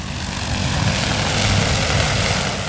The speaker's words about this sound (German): Staub wirbelt auf, dann hebt die Drohne ab. Wie ein überdimensionaler Moskito, behängt mit einem großen Kanister und Spraydüsen, düst sie los.